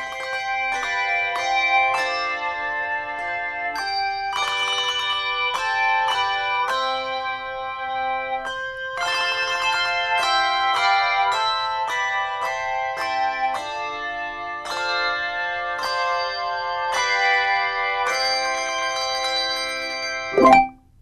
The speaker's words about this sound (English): After you strike it, it comes down and goes up. And pulling the bell against the air like that, what you say, changes the wavelength and creates a kind of a bend in the sound. So this will have the shakes and the swings to it.